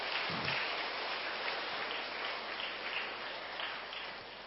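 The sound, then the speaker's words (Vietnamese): A crowd claps steadily, a dense wash of many hands with no individual claps standing out, holding an even, fairly loud level throughout before easing slightly toward the end. The applause closes a Buddhist dharma talk on the full-moon day of the first lunar month, spring of Dinh Dau. “Tràng vỗ tay của quý vị cũng khép lại chương trình pháp thoại hôm nay trong ngày rằm tháng giêng xuân Đinh Dậu.”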